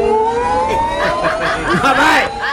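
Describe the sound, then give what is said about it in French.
A steady electric car motor whir, a thin tonal whine that rises slowly in pitch throughout, with chuckling and snickering voices over it in the second half. “Bah, tu connais la voiture électrique, Et tu as entendu le son de la voiture électrique?”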